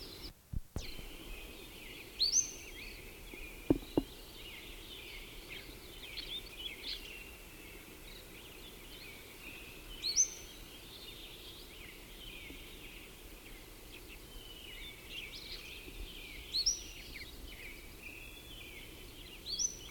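bird, wild bird calling

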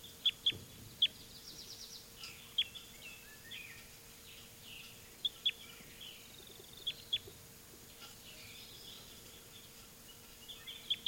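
bird, birds singing

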